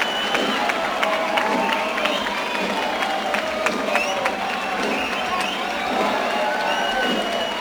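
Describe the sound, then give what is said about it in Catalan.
A large crowd applauds steadily outdoors at the cap de la vila as a band of gralla players leave after their final piece, dense clapping mixed with scattered cheers and a murmur of voices, loud and continuous throughout. “Els … se'n van entre aplaudiments del cap de la vila.”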